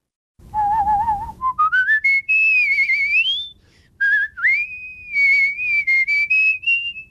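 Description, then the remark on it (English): A clear mouth whistle from a competitive musical whistler carries a melody, sliding upward through a series of sustained pitched notes with smooth glides and a brief pause midway, with no talking. “I am a whistler, a musical whistler.”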